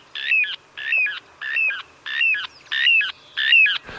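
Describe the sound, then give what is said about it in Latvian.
A little ringed plover, a commonly seen bird of sandy habitats, gives six clear, sharp calls in a steady rhythm, about two per second, fairly loud against a quiet background with no one speaking. “Tad tāda no otras puses biežāk redzēta smiltāja sūga ir upes tārtiņš.”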